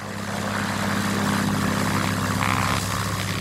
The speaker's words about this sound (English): It's a plane, a single-engine Cessna that can map chemical plumes from above in real time as the smoke is billowing. It's called the Airborne Spectral Photometric Environmental Collection Technology, or ASPECT.